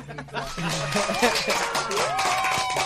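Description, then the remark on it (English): Steady, rapid hand clapping runs for about three seconds at a fairly even loudness, with voices and a bit of chuckling mixed in over the claps. “I want to give you the applause so bad, because.”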